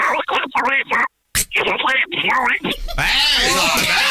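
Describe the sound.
A person does a Donald Duck cartoon voice: raspy, nasal, quacking gibberish in rapid, loud bursts, with one brief pause before a final, noisier run of squawky chatter.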